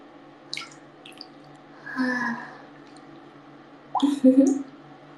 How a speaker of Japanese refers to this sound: 音声だけ公開入浴助かる。